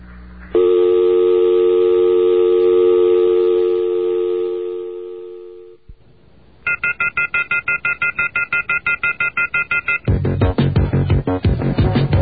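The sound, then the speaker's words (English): A telephone busy signal: a steady electronic tone drones for several seconds, then gives way to rapid, evenly spaced beeps, ending in a louder, denser pulsing. No voices. “All of our unprincipled collaborators with Western business interests are busy right now.”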